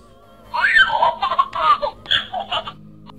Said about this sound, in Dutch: Ik praat met hem. Ik roep, baby Yoda, wil je koffie? En dan begint hij te praten. En dat klinkt als volgt.